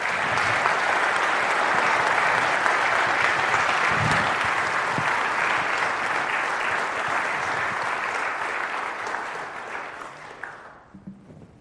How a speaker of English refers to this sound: will you please give them both a thorough round of applause?